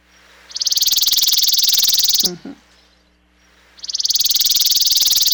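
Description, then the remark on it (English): A chipping sparrow's dry, rapid trill, a long burst of identical high notes repeated very fast, pauses briefly while a short low voice murmurs, then starts again, loud. “And that's the chipping sparrow.”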